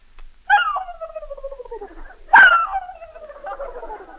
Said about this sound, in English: turkey.